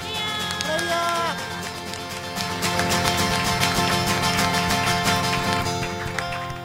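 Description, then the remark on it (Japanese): Congregation applause during a church worship service, given in thanks after a praise song, builds into dense, steady clapping after a couple of seconds and carries on loudly over sustained keyboard chords and a held melodic line. “もう一度ご全身感謝の拍手を捧げましょう。”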